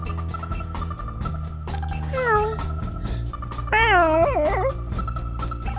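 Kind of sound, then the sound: animal, cat meowing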